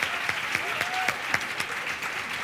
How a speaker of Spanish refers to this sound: Un fuerte aplauso para nuestras tres ponentes. Muchas gracias.